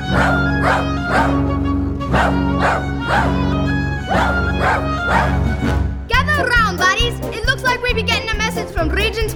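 Dogs bark an all-dog alert, an SOS from Regent's Park, in a steady rhythm over a sustained, droning musical backdrop, then several barks and yelps overlap in a busier, excited chorus toward the end.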